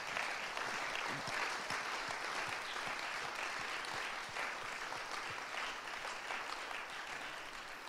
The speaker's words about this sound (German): Und jetzt wollen wir mal einen Applaus geben für die, die jetzt nach vorne kommen und aus ihrem Leben berichten.